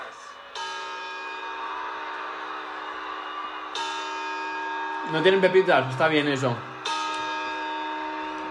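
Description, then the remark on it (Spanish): Three slow, evenly spaced clock bell chimes for the New Year's Eve countdown, each ringing out and lingering. A person speaks briefly between the second and third strikes. “Y ahora sí, campanadas.”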